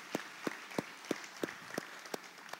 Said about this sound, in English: And I want to offer a most sincere, most deserved thank you to all of our mothers and all of our spiritual mothers as well. So let's give one round of applause for all of them.